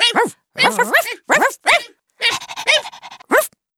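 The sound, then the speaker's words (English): A rapid, irregular string of high-pitched puppy barks and yips in a pet shop, fairly loud, with several overlapping little voices and short gaps between bursts. “The puppies are barking. They're very noisy.”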